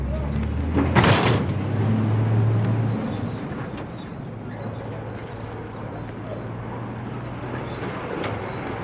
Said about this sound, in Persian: در گاراژ رو باز میکنن، کامیون میره.